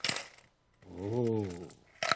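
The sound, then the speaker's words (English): Dollar coins drop out of a toy castle bank and clatter in two short metallic bursts, one at the start and one at the end, with a drawn-out voiced exclamation in between. “These are dollar coins.”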